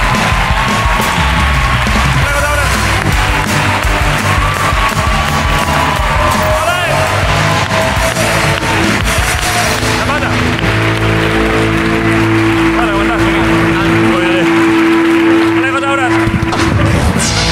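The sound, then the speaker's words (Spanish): The studio audience of the TV show La Resistencia claps and cheers loudly and continuously for about seventeen seconds for guest Alejo Sauras, with scattered whoops and shouts rising out of the dense applause and a steady tone underneath. “Pido un aplauso para Alejo Sauras.”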